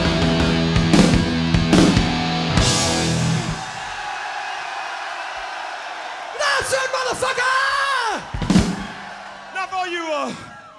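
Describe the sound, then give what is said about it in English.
A large concert crowd screams and yells loudly on the performer's cue so it can be picked up by the studio upstairs, sustained wild cheering with whoops rising above the roar, voices blending into a dense, noisy wall of sound. “And this time I want you to really fucking scream so they can pick it up in the studio upstairs.”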